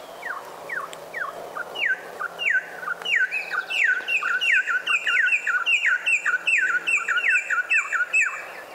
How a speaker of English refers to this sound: The male? Yeah, isn't that a beautiful song? Yeah. It is. That's a Venezuelan troupial, and the male begins, and the female is then joining in.